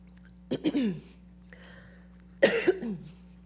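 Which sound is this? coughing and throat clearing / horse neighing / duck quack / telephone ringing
coughing and throat clearing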